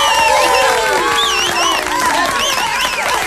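A loud, steady burst of audience applause mixed with cheering and whoops, the crowd noise sustained for a few seconds without pause.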